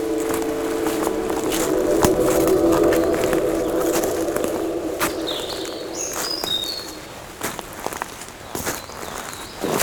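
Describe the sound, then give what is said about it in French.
Birds chirp in short, high bursts over a steady forest ambience among ferns, holly and moss-covered rocks, while crunching footsteps move along; a low cooing hum lingers in the first half. “Les oiseaux et la forêt semblent veiller ainsi sur le monde.”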